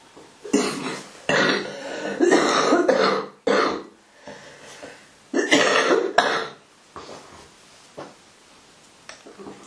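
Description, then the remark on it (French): A person coughs in several loud, harsh bursts, some drawn out, separated by short pauses, with quieter breathy sounds trailing off toward the end. “Des fois, quand on tousse, ça peut aider.”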